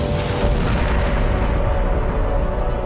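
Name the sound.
explosion boom sound effect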